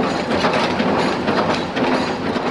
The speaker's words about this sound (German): im Hintergrund vor allem noch die Auto fahren, ab und zu kommt der Zug durch.